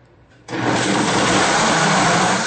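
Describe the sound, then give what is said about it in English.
A blender switches on abruptly after a brief quiet moment and runs at full power, blending a smoothie with ice cubes, a loud, steady, dense whirring roar with no talking over it. “Just turn the blender on.”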